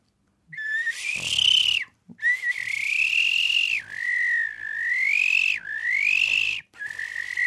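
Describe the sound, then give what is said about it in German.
A biologist and birdsong imitator whistles an imitation of a stone-curlew's courtship call: loud, warbling phrases that rise and dip, repeated about five times with brief breaths between, no talking. “Das ist die Balz des Triels.”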